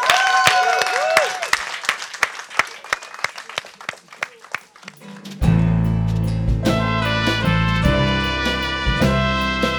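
An audience claps and cheers for about five seconds, a rapid patter of sharp claps with a few whistles and whoops, before loud band music with heavy bass kicks in and takes over.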